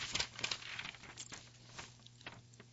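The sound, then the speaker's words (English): Soft papery rustling and crinkling, a quick series of dry crisp taps and swishes like a magazine page being flipped, fairly quiet, with no voices. “Turning the page to the brief news”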